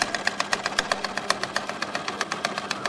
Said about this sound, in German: Nähmaschine.